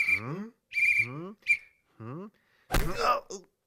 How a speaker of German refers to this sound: Das ist ein Vampir. Vampire sind aber wirklich unheimlich. Nur warum pfeift er so? Na, ist doch klar. Wegen der Kokosnuss.